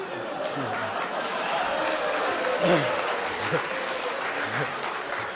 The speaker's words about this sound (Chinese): 给你鼓掌呢